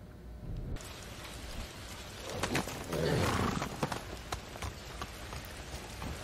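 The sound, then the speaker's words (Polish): Horse hooves clop in an uneven series of sharp knocks over a steady, hissing wash of noise, like rain or rushing wind, moderately loud with no voices. “No, koniem po czymś takim jeździć to nie jest łatwa sprawa, przypuszczam.”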